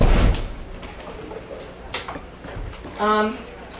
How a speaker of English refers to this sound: Would you close that door, please?